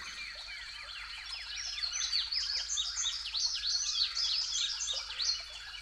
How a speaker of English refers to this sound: We'll start on a beautiful spring morning, right as the sun starts to rise. The spring migration has finished. We're listening to spring birdsong, where everybody's pretty much setting up shop for the season.